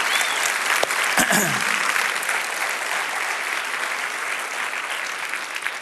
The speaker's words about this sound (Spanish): Si Dios te habló, dale un aplauso al Señor, que Él se lo merece.